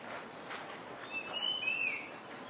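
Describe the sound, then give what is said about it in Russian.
Birds singing outdoors: a few thin, high whistled notes drift over a steady hiss of ambient noise, fairly faint, with no one talking. “У нас уже птицы есть, все святые вокруг Кокио.”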